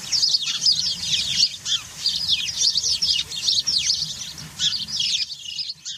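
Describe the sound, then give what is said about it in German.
A busy flock of house sparrows chirps continuously and overlapping, a dense, lively chatter of short bright calls, with a low rumble of background noise underneath. “Zum Abschluss hören Sie noch einmal das wilde Gezwitscher der Haussperlinge.”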